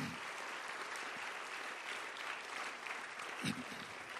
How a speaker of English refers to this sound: Praise the Lord. Let's clap our hands and lift up praise and thanks to God.